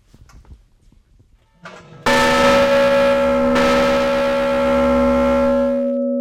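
A large river boat bell, once carried on a boat up and down the Ohio River, is struck once with a loud clang, then rings on with a long, steady metallic hum that barely fades, after some quiet handling noises.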